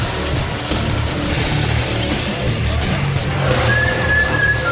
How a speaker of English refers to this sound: Bad enough that this tooth is killing me. But then I gotta listen to all this drilling, the grinding, the saw going.